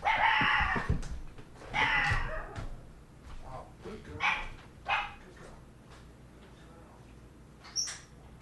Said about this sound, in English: Our dog has just learned to bark, and now no one was at the door. But that's good that she's barking or something.